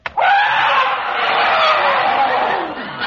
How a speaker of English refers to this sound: An elephant is tied to our house!